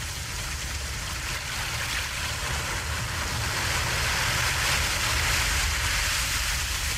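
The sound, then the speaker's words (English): Rough, stormy waves churn and surge around a small boat that is taking on water in the bow and is weighed down by torpedoes. The sound is a dense, continuous roar with deep low rumbling and gusty wind, loud throughout with no voices. “We're taking too much water in the bow. It's them torpedoes weighing us down. Charlie, look at those waves.”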